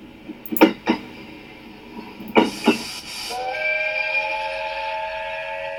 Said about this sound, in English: Kikue's train was coming out of the tunnel.